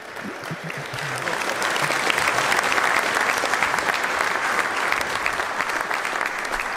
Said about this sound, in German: aber nur, wenn ihr jetzt einen tollen Applaus gebt, sonst lasse ich es bleiben.